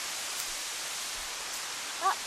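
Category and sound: nature, waterfall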